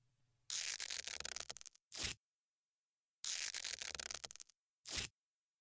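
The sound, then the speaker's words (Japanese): Vinyl tape is pulled off a roll in two long, crackling rips, each followed by a short sharp tear as a strip is pressed down, taping diagonally over the gaps of a gym vaulting box. Clear, with no voices. “隙間から覗かないように、ここにあるビニールテープで窒息しないように斜めに貼っておくわね。”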